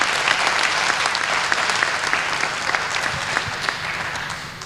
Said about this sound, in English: So I think she also deserves the same kind of applause just for being here.